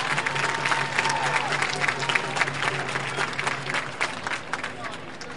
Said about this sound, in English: He asks for a baseball, and he'll probably throw a couple warm-up tosses. Fans give him a nice round of applause.